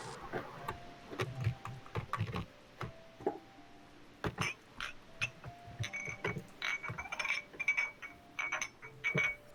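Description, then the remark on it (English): Fidget toy clicking: a dense, irregular run of sharp plastic clicks and snaps, some in quick bursts, others spaced apart, with faint higher ringing tones mixed in and no talking. “Very good fidget sounds.”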